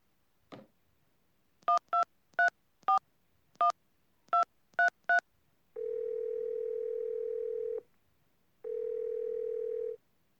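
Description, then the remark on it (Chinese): A phone number is dialed to call a husband: a quick click, then a rapid series of short keypad beeps. Two long, steady ringing tones follow with a pause between them, clear with no voices. “今天好忙好累呀，给我亲爱的老公打个电话吧。”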